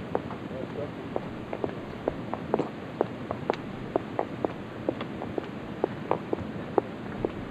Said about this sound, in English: Now, that footsteps you're hearing, we're walking to our car, and there's three officers following us at that time.